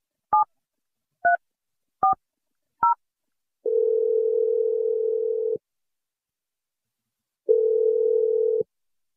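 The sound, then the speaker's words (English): Four quick keypad beeps from a phone being dialed from a radio studio to place a call, each a short two-note tone, followed by two long, steady hums of the line ringing, separated by a pause. No voices. “I'm going to dial up Greg.”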